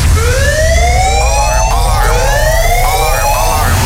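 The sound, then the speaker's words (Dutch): A loud wailing siren sweeps repeatedly upward in pitch, its rising tones cycling every second or so over a steady low rumble, with no voices. It is the 'Lowlands alarm' sound effect on radio station 3FM, announcing the last tickets for the Lowlands festival. “Dan gaat het Lowlands-alarm voor de laatste kaarten.”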